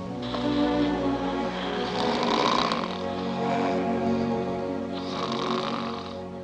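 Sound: man snoring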